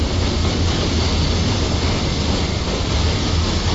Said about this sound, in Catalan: Fem una parada de tren, se'ns ha acabat el viatge.